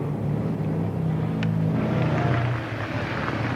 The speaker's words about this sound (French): Les motos.